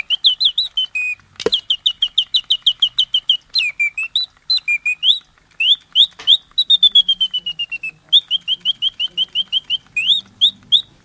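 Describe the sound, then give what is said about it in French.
A tiny feather-covered mechanical toy nightingale, barely the size of an index finger, sings in rapid, evenly spaced high chirps and warbling trills, pausing briefly between phrases, with a sharp click near the start and no talking. “C'est un oiseau vraiment minuscule. C'est un petit rossignol.”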